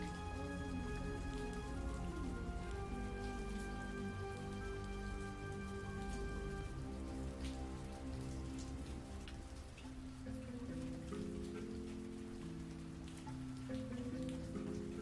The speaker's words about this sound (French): Moi, il y avait une pluie acide sur toute la ville.